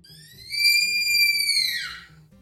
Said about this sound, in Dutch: Dus vrouwelijke luiaards, die klinken bijna als een gillende vrouw. Ja, of een deur. Zo'n deur die dan zo lekker olie... piept. Ja. Kraakt, ja. Oh. Ja, zo klinken ze.